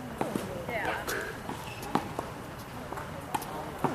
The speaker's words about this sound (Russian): А за спиной у меня, слышите, стучат мячики? Это корты